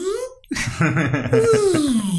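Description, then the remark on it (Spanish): Someone vocally imitates the sound of the Catbus's door opening from an animated film: a drawn-out, wavering moan with a rattly, pulsing texture, finishing in a long tone that slides gradually downward. “Algo que a mí siempre me pareció medio friqueante del gato bus es la puerta que se abre y hace...”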